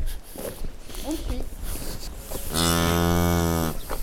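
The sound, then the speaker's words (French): A dairy cow lets out one loud, drawn-out moo lasting about a second, after a stretch of indistinct voices and shuffling noise in a farm building housing 120 dairy cows. “Donc là, sous le bâtiment, on a 120 vaches laitières.”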